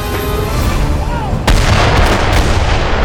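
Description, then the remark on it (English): Mortar fire from the ground to the north, the first of the mortars: a low, steady rumble gives way midway to one sharp, loud blast, followed by a dense roar of rolling, crackling noise that keeps going to the end. “On the ground to the north, he could see the puff of smoke from the first of the mortars.”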